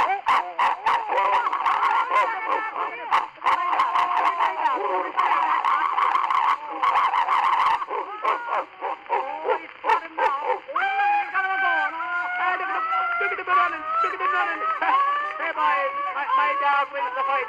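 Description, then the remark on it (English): Human voices mimic a dog fight with loud, frantic overlapping barks, yelps and snarls, later turning into higher, wavering whines and howls that carry on without a pause. “Ah, happy little parody of a dog fight there.”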